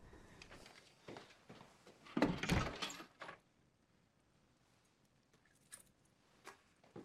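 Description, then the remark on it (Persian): A set of keys with a house key jingles briefly and clearly as a building manager hands it to police, a metallic rattle lasting about half a second, surrounded by faint handling sounds and quiet ambience. “میتونید کلید خونه خانم هانسورا رو بهمون بدین؟”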